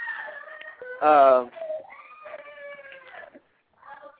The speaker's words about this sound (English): Excuse my daughter there. When you said that and she started screaming, I went, wow, they're really excited.